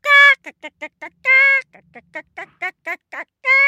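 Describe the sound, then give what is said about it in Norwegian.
A person imitates one of their hens that crows like a rooster very early in the morning: long strained honking calls broken up by quick, clucking bursts, loud, repeated several times with no ordinary speech. “Men en av hønene våre litt sånn hanaktig i dag. Innimellom så våkner jeg veldig tidlig på morgenen av at hun bare...”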